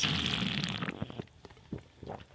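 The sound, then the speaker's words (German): A bottle of R-Up lemonade is twisted open: a steady hiss of escaping gas for about a second, then several short clicks and faint crackling fizz. “Ja, dann mache ich jetzt aber schön zur Feier des Tages das übliche R-Up-Geräusch.”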